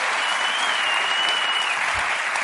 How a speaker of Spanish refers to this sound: Un aplauso.